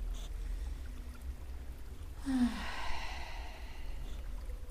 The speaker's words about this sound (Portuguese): Se você se observar agora, se você tomar uma profunda respiração, puxando o ar pelas narinas e soltando pela boca entreaberta, faça isso algumas vezes.